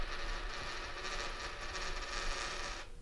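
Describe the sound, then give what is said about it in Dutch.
A tossed coin clatters and spins on a hard surface, a steady metallic whirring that lasts a few seconds before stopping abruptly as it settles, landing on the 'munt' side. “Ja, hij staat op munt.”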